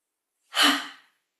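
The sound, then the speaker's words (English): A single forceful, breathy exhale, "Ha!", made while rolling up during an exercise, fairly loud, rushing out in about half a second and fading quickly, with silence before and after. “As we breathe out, we make the noise.”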